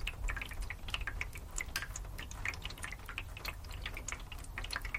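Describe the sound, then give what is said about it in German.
Quiet, irregular drips fall one after another over a soft low rumble, like water slowly dripping from trees and rooftops after rain, scattered and unhurried with no voices. “Ein leises und langsames Tropfen von Bäumen und Dächern.”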